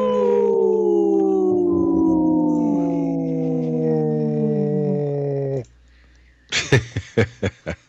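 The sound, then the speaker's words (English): Wolves howl in a chorus of long, overlapping wails that slide slowly downward in pitch for about five seconds. After a short silence comes a quick run of six short, sharp bursts. “This portion of the show is supported by Howling for Wolves, protecting wolves for future generations. Howling.”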